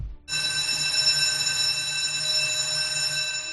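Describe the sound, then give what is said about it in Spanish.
A school bell at the Escolanía de la Santa Cruz in the Valle de Cuelgamuros, 50 km north of Madrid, rings without a break for the end of class, a steady, shrill electric clang with bright buzzing overtones that starts abruptly and holds at a loud, even level to the end. “¿Este timbre que acaba de sonar qué es? La salida de clase.”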